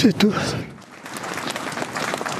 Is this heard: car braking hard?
no